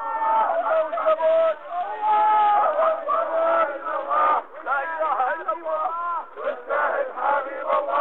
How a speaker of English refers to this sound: The coffin's being carried out of the mosque, draped in a Jordanian flag. You can hear the crowd shouting, "God is great, jihad, jihad."